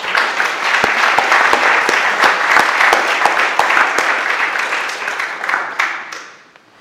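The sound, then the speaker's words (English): An audience at an Easter Holy Communion service applauds the flower arrangers with steady, dense clapping, a few sharper individual claps standing out, before the applause fades away at the end. “Perhaps you could just spare a few minutes at the end of the service to have a closer look at them, but perhaps we could give them a round of applause.”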